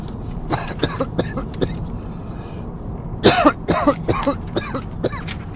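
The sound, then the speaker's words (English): Several harsh coughs and throat-clearing bursts in an irregular series, the loudest cluster just past the midpoint, with no talking in between. “Sorry, coughing.”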